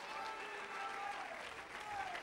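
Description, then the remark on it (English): A church audience claps their hands to God during an evening service, a dense steady wash of applause with faint voices and a few tonal notes mixed underneath. “Come on, let's clap our hands to Him.”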